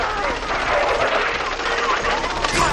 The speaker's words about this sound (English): In a video on the large screen, a person in a huge armored suit topples over. The suit's machine guns discharge.